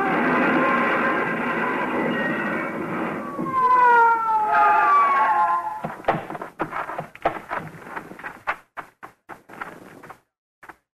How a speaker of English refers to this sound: Whoever it was paid no attention to our siren, but we pulled closer, hugging the curves by using the whole road.